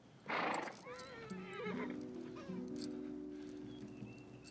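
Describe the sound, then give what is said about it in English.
A horse whinnies as a wounded man struggles to mount it, a long, wavering neigh that rises and falls, opening with a sharp breathy snort, while a low steady hum continues underneath. “With difficulty, he manages to mount his horse.”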